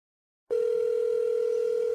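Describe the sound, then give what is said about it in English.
A steady electronic telephone tone, the ringback heard while an outgoing call from Maine to Vermont rings, starts abruptly after a moment of silence and holds a single even, mid-pitched note without any voices. “Three ringing.”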